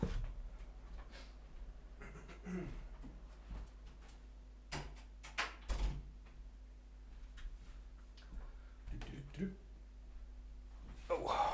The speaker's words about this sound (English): Just closing my door so that the rest of my house warms up, because it's freezing.